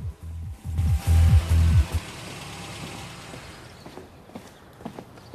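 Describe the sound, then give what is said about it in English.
The engine of a black car rumbles low as the vehicle creeps past to park in front of a house, loud for a couple of seconds before dropping away, leaving a quieter ambience with a few scattered soft clicks. “a black vehicle creeps past and also parks in front of Berlin's house, along with a host of other cars”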